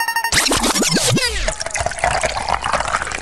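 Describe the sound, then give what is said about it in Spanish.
Half a small glass of water is poured briefly into a glass, a quick run of gurgling, rising splashes for about a second, then fading into a quieter background murmur. “¿Medio vasito de agua?”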